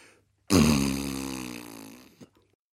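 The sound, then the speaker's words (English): A single long, loud trumpeting fart, a steady buzzing tone that sinks slightly in pitch over nearly two seconds before ending in a brief sputter. No voices. “The room was filled with a loud trumpeting.”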